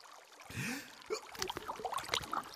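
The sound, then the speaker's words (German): Water sloshes and splashes, with a gurgling, bubbly swell followed by a run of irregular small splashes as Beethoven, bathing, dips his head under the warm bathwater. No voices. “Beethoven taucht mit dem Kopf unter Wasser.”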